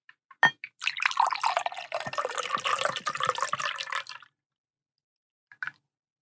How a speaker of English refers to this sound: But I have a Pisco Sour that I just mixed up. So I'm going to go ahead and pour it into my new cocktail glass. New-ish. I bought it for this segment specifically.